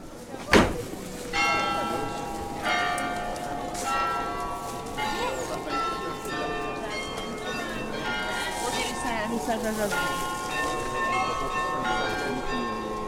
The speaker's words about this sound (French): Moi, pour travailler au pied du beffroi, je ne regarde pas ma montre, j'écoute, j'entends les ritournelles, j'entends les cloches sonner les heures, sonner les demi-heures. C'est toujours un élément indispensable dans la vie de la ville.